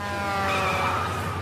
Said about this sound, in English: Bus pulling out.